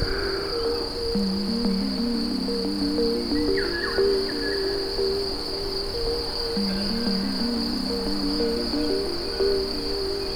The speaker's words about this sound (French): Les grillons, eux, chantonnent de manière incessante.